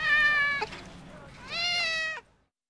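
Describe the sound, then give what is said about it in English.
A cat meows twice, two drawn-out, clear calls, the first about half a second long and the second slightly longer, with a short pause between them. “Have you got a cat? Yes, I have. Can I see it, please? Yes, of course. Here it is.”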